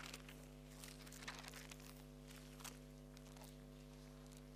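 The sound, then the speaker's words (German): Pages of a Bible being leafed through, flipping back to Isaiah 37: a series of soft, papery rustles and flicks, fairly faint, over a steady low electrical hum with no voices. “Wer keine Bibel dabei hat und dem jetzt einfach langweilig ist, weil wir immer zwischendurch blättern, dem sei empfohlen, einfach nächstes Mal eine mitzubringen.”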